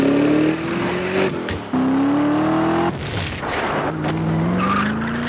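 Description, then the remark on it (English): A Ford GT sports car engine roars loudly, its pitch climbing through several gear shifts, with screeching tires and gritty skidding noise layered over the acceleration. No one speaks. “Introducing the Ford GT.”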